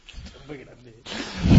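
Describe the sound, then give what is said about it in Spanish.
A person who has fallen asleep during a radio show snoring on air: a low murmur gives way to a harsh, rasping inhale that swells louder toward the end, one rough snorting breath. “Son ronquidos, sí.”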